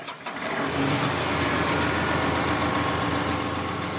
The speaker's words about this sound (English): 15 years ago, tractors could be heard at Sano Farms on any given day. Now the sound of tractors is a rare occurrence on this farm about an hour west of Fresno.